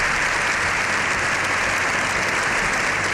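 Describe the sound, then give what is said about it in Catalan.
Loud, sustained applause from a large crowd, dense continuous clapping with no pauses, a seven-minute standing ovation in the Congress of Deputies for the Pope at the end of his speech. “Lleó XIV ha rebut una ovació de 7 minuts al final de la seva intervenció”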